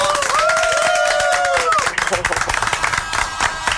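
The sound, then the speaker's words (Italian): A studio audience on the Dance Attack show claps in a dense, steady burst of applause, with a long wavering whoop of cheering rising over it at the start before the clapping thins slightly. “ce l'abbiamo fatta finalmente a riportare ai microfoni del Dance Attack Erika, applauso!”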